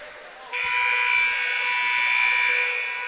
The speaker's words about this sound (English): Buzzer sounds. Both teams coming out of the timeouts, getting ready to start second half.